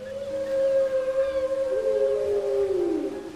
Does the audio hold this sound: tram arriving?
no